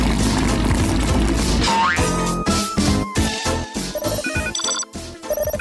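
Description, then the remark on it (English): A bouncy musical jingle with boing-like effects gives way to bright, repeated electronic telephone ringing tones near the end, loud, with no one speaking. “Aha, I've got a call.”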